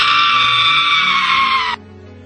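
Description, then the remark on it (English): A recording of a man letting out a shrill, girlish scream, loud, held steadily for nearly two seconds before cutting off abruptly into near silence. “He sounds like a little girl who screams.”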